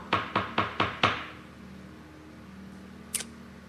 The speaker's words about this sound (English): And it knocks on the door.